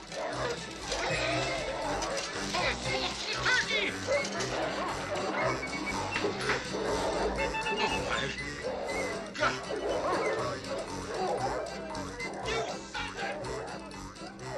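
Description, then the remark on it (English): Several dogs bark and yap excitedly while eating a family's Christmas dinner, in a loud, cluttered scene, the barking coming in frequent bursts over continuous commotion, with people's voices mixed in. “But I want to focus on the final scenes where the neighbor's dogs eat the Christmas dinner and it forces the family to change their holiday plans day of.”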